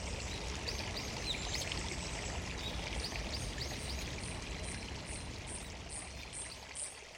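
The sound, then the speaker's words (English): Steady, continuous rush of the small river Rio Triga flowing into the waters of the Gulf at its confluence, a full broad wash with no pauses, while faint repeated bird chirps sound high above it. “I am now at its confluence, where the river enters the waters of the Gulf.”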